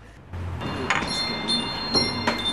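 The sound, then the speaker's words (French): A small greeting door chime rings in offices being toured, bright metallic tones struck several times in quick succession and lingering, with a low rumble and faint shuffling underneath. “Voilà le petit carillon du bonjour.”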